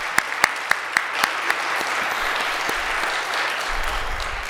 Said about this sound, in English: First off, I'd like us all to give a hand of applause